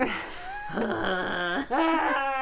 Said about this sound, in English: It's a lot of toilet straining sounds.